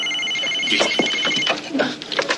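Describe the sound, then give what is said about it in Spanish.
A missile warning alarm for Soviet missiles rings with steady, high-pitched repeating tones, like a shrill telephone bell, while scattered bursts of noise and clatter sound over it. “Alarma misiles.”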